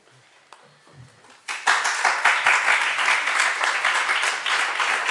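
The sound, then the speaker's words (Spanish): After a brief quiet stretch with faint murmuring, a crowd breaks into sustained, dense applause from about a second and a half in, many hands clapping steadily and fairly loud until the end. “yo también te aplaudo.”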